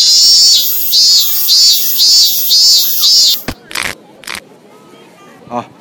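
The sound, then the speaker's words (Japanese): A male cicada's dying cry on a hot day in Saitama Prefecture, Japan: it shrills loudly in a steady run of pulsing, wavering buzzes, then stops abruptly, leaving a few sharp clicks and rustles before it falls quiet. “どうやら断末魔の叫びだったようです。”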